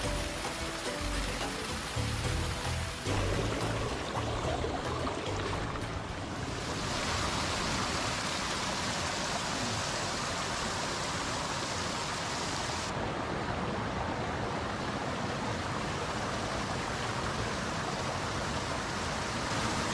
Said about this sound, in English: And this water is probably the cleanest we've seen anywhere. Beautiful running fresh water.